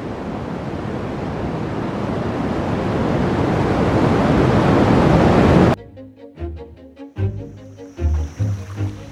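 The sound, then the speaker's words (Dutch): The afterglow of the Big Bang rendered as sound: a dense, surf-like hiss and roar swelling steadily louder for about six seconds, then cutting off abruptly into a rhythmic musical intro. “Ja, dit is het dan. De gloed van de oerknal.”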